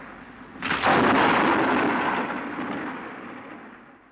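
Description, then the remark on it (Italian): A loud crack of thunder bursts in suddenly, then rolls and rumbles broadly before slowly fading away over several seconds, with no voices. “Il temporale impedisce anche al dottor Astrof di tornare a casa.”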